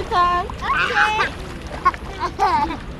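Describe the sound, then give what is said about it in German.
Children's high, excited voices shout and squeal while water splashes and sloshes around them in a kids' pool in Kenya, with a brief sharp splash partway through. “Es gibt auch einen Kinderpool. An dessen Rand hat es sich Mercy Rono bequem gemacht. Während ihre Kinder noch toben”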